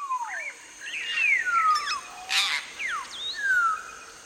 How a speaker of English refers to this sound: Certain vocalizations seem to be aggressive, certain ones seem to be affiliative. A pair-bonded bird had vocalizations they used with one another to identify one another.